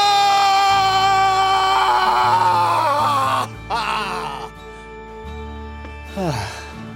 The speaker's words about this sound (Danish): Din motivation er, at du skal give slip i alt. I simpelthen alt. Okay. Det er sådan en primal scream.